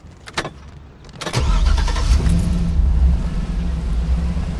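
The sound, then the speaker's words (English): A few sharp metallic clicks and rattles as a screwdriver is jammed into an SUV's ignition on a street, then the engine cranks and catches, settling into a loud, steady low rumble that holds to the end, with no voices. “He climbs in and jams a screwdriver into the ignition.”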